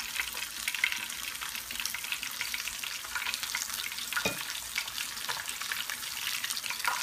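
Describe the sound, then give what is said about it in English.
Chicken pieces sizzle steadily in a hot pan, a dense, hissing crackle with scattered sharper pops throughout and no voices. “Let's go ahead and put all these chicken meat pieces in here.”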